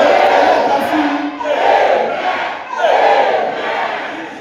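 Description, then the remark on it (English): A church audience shouts to the Lord together in loud, sustained surges, three swells of massed yelling rising and falling without pause, with no single speaker standing out. “Can somebody shout to the Lord and the Lord?”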